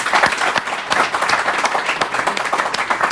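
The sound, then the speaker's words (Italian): An audience at an evening presentation of the book Juventus e il secolo degli Agnelli claps steadily for the guests in a dense, continuous wash of many hands, sharp overlapping slaps filling the whole stretch at a fairly loud, even level with no voices. “Quindi un bel applauso.”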